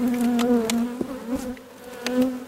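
A dense, steady drone of many honeybees buzzing close by, their wingbeats forming a continuous hum with overlapping tones that waver and swell, punctuated by a few sharp clicks.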